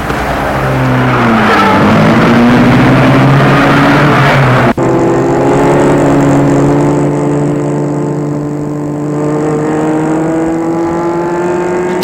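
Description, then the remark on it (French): A car engine runs loudly, its steady harmonic drone rising and shifting in pitch as the vehicle pulls away and keeps driving, with a brief click midway. “La voiture en route”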